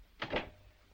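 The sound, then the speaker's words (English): A man shuts a door with a quick two-part clunk, a brief latch-like knock followed by a fuller thud, fairly soft, then quiet. “He shuts the door.”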